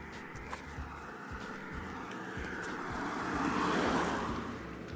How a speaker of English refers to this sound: Sorry about that, just let a car go past on my morning walk again.